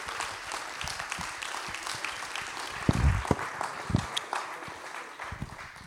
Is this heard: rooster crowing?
no